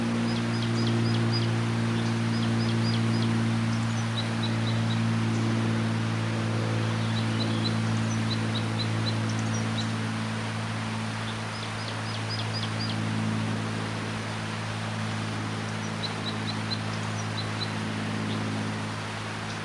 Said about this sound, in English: Again, on June 29th, there's a wild type 2 crossbill singing here near the camp, and that's exciting the decoys, plus the new bird, number 679. And I think the wild bird is aware of the decoys down here now. And this is its song.